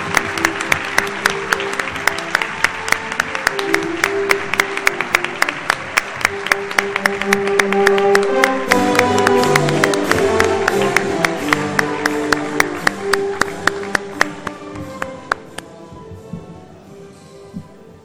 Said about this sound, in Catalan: Enhorabona. Enhorabona. Fort aplaudiment.